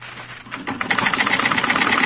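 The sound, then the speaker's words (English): A sewing machine starts up and runs in a fast, steady stitching rhythm, sewing sample stitches of every kind it can do (embroidery, monogram, zigzag, darning, blind seam) on pieces of cloth. Its rapid mechanical clatter grows louder and holds even, with no voices over it. “Now, each piece, we make sample stitches of every kind the machine can do.”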